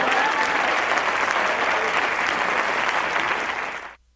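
Loud, sustained applause from a large audience after a stand-up comedy set on stage, a dense steady wash of clapping that holds for about four seconds before cutting off abruptly.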